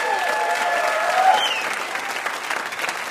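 Steady audience applause for the VIPs, a dense wash of many hands clapping at an even, sustained level, with a few faint whistles and cheers threading through.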